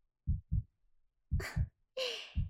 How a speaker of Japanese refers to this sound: お兄ちゃん、すっごくドキドキしてるね。